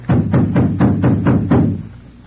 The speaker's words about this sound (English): I'm going to knock. Stand to one side in case we get an answer in lead.